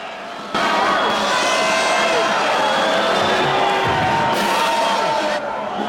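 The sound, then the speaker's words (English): A rowdy theatre crowd at the Glasgow Empire in Glasgow erupts into loud, continuous jeering and shouting, hurling abuse and projectiles at a slapstick performer, many voices overlapping in a dense roar, with a few scattered thuds mixed in before the din abruptly cuts off. “At the Glasgow Empire, the raucous crowd hurl abuse and projectiles at a slapstick performer.”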